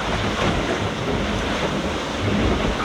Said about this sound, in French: Et là je suis en train de me faire enchaîner, il y a 15 nœuds de vent mais il y a des gros grains qui passent là, et les grains là c'est carrément des trompes d'eau.